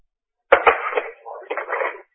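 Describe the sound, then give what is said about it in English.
Gusty wind buffeting a phone microphone: a couple of low thumps, then about a second and a half of rough, rushing noise that swells, dips, and surges again before cutting off. No one speaks. “Sounds like the wind. Someone's outdoors with their phone in the wind.”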